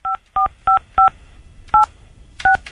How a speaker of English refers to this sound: don't talk while he's dialing. Yeah, I think that's what did it.